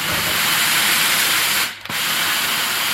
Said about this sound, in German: Änderungsschneiderin Anke Horn, die Stille, erzeugt im Hintergrund mächtig Dampf